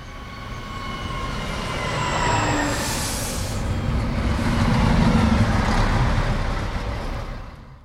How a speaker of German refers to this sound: Das war doch ziemlich einfach, oder? Genau, das war der Zug am Bahnhof in Tübingen.